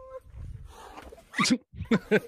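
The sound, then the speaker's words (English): An agitated elephant lets out three loud, harsh trumpeting blasts in quick succession after a low rumbling start, forceful. “An elephant not too happy.”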